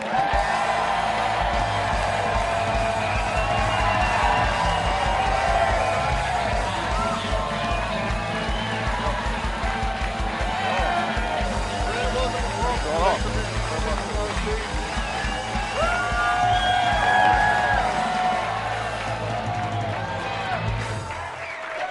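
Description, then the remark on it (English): A large crowd at the Packers Live show cheers steadily to welcome guest Brandon Bostic, with whoops and scattered yells rising above a dense wall of voices and applause that stays loud and unbroken for the whole stretch. “It's a great crowd, huh?”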